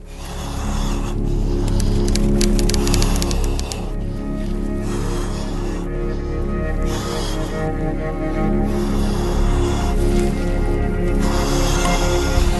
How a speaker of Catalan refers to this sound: Amb aquesta respiració tan agònica que si veus el vídeo ja és frapant,